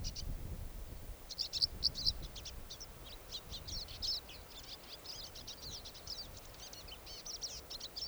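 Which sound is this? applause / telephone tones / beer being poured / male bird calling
male bird calling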